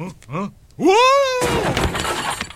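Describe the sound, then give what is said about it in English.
A short vocal sound and a rising, drawn-out cry give way to a loud crash of a prop chair breaking apart, a burst of cracking and splintering that rattles on for about a second. “That's a breakaway chair. I'm supposed to do that.”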